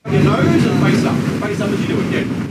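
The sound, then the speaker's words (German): Steady wind buffets the microphone over a low, rushing rumble of choppy water around a boat on the Great Barrier Reef, loud and continuous throughout, with faint indistinct voices of visitors on the boat getting ready for a dive. “Die Besucher auf dem Boot machen sich zum Tauchgang bereit. Es ist etwas windig und wellig über dem Great Barrier Reef.”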